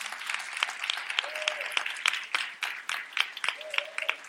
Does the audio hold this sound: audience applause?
yes